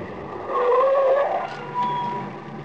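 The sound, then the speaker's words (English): A green car drives along a lonely stretch of road with a steady engine drone and a rising, whining tone, moderately loud, with no voices present. “We were on a lonely stretch of road, and although the car was green, not black, and didn't look anything like a hearse, I had a gloomy feeling that we were heading for a funeral.”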